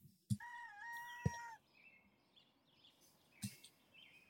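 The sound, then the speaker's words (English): At the start of a song, a rooster crows once, a loud drawn-out cock-a-doodle-doo lasting over a second, punctuated by a few sharp thumps, followed by fainter bird chirps over a noisy background. “Starts with some bird noises.”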